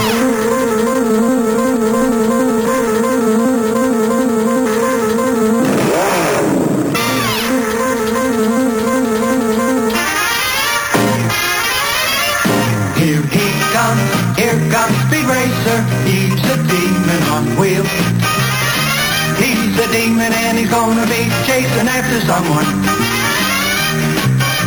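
A loud, energetic Speed Racer cartoon theme song plays on its own without talk, opening with a sustained wavering tone and a quick sweeping swoop before a busy, bouncy melody takes over.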